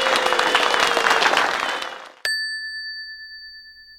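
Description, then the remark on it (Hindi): Dense, steady applause from a crowd fades out over about two seconds, then a single bright bell chime rings and slowly dies away on its own. “वो मुस्कुराया और फिर तालियां और भी जोरों से बजने लगी।”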